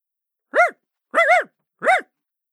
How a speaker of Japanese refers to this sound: 犬ですよね。いや普通の犬、しかも小型犬だし、とても戦力にはなりそうにないんですが。あれ、なんか怒ってる。